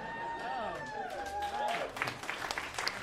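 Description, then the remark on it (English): A contestant does a vocal impression of a tornado, a wavering, whistling howl that rises and falls for a couple of seconds, then gives way to a burst of audience applause and clapping. “it's up to you now to do your impression of a tornado.”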